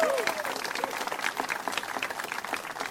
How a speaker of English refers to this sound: Yes, please, clap.